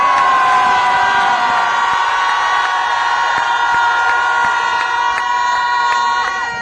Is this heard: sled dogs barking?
no